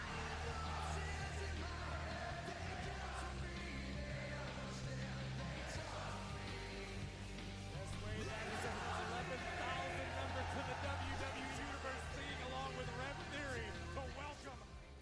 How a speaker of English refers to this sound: That French crowd was on point singing songs with the masses. It was great. If you see Randy Orton's face during that clip, that man is locked in.